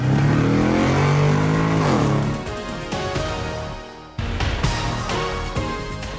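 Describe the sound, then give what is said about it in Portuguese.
A car engine revs loudly, its pitch climbing through the first two seconds before gear changes and continued acceleration, sustained with no talking. “engata a primeira e acelera!”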